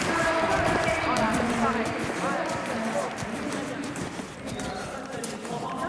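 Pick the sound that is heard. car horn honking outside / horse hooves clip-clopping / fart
horse hooves clip-clopping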